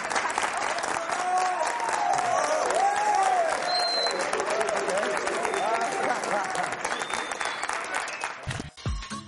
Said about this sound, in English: All right, guys. Big round of applause for our man, Darius Fleming.